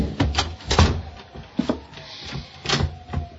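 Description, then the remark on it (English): A closet door is handled and shut, with a few wooden knocks and scraping rattles spread over a few seconds, ending in a firmer close. No one speaks. “I pushed her body into the closet next to the body of Mr. Field and closed the door.”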